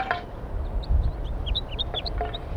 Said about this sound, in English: Recording the wild birds. Some more have joined the flock up in the pine tree. Six birds up there now, all right up at the top.